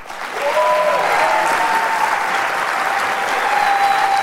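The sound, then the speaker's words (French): An audience claps steadily for a pianist who has just taken his place, a dense wash of many hands that swells in quickly and holds at full volume, with a faint tonal whistle or hum threading through the noise. “Vous pouvez applaudir aussi JP Pianiste qui vient de prendre place”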